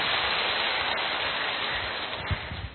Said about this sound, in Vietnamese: Cố một lại một vòng nữa xem cả hội trường xem nào, xem nó có cái khí thế gì hơn không? 2 3. Rồi, cho một chàng pháo tay thật to.